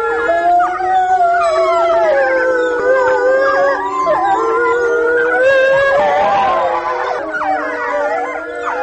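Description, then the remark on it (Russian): A pack of four adult wolves and four pups at the Novosibirsk zoo howling together after the zoo's closing time, several long overlapping wails rising and falling, mixed with higher, wavering yips and squeals from the pups, loud and sustained throughout with no talking. “Вот конкретная пара, которая была записана, 4 взрослых животных и 4 детеныша в новосибирском зоопарке, они практически всегда выли после закрытия зоопарка”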